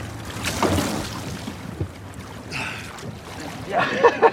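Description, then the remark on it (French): A boat churns through water making a wave, its wake rushing and splashing in several surging bursts over a steady low rumble, moderately loud. “Hey, t'as vu la belle vague que je te fais ?”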